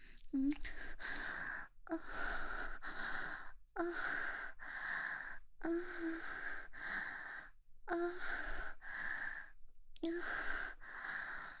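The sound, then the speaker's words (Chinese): Heavy, rapid panting, about a dozen loud breathy bursts in a steady rhythm with short pauses between them and no talking. “小哥哥们，听一听人家水声，喘息的不要不要的，好不好？”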